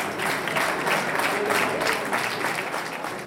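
Warm, sustained applause from a sizable crowd of families, friends, relatives, children, army colleagues and civil protection welcoming returning rescuers, dense and steady with many hands clapping at once, filling the whole stretch without pause.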